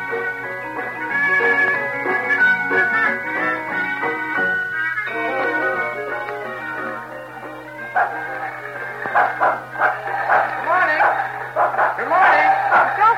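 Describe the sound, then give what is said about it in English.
A dog hitched to a lawnmower barks and yips excitedly in repeated bursts, loud, mixed with people talking over a steady low mechanical hum throughout. “Did you have to hitch that dog to the lawnmower?”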